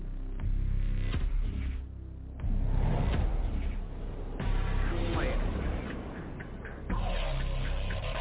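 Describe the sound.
A door is opened for someone who has arrived, amid handling noise: a few sharp clicks and knocks over a steady low rumble, with shuffling and faint voices in the background.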